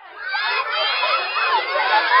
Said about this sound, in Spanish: Todos los niños gritaron emocionados una vez terminado el circuito.